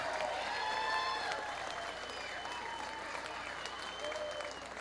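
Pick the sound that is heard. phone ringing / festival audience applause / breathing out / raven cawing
festival audience applause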